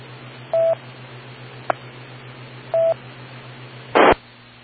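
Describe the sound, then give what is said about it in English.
Two brief DTMF touch-tone beeps, a couple of seconds apart, key up an EchoLink radio connection over a steady low hum and hiss, with a faint click between them and a loud burst of static before the signal drops. “I should drop and find out if anybody's on Echo Link too.”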